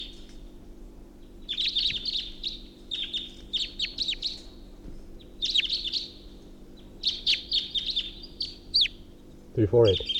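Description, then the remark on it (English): A bird, number 348, being recorded gives its alternate call: repeated high, bright chirping calls in bursts of rapid notes, clear over a steady low hum, ending with a brief low voice. “Three four eight alternate call.”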